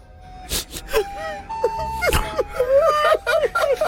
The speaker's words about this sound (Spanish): El chiquito está llorando, güey.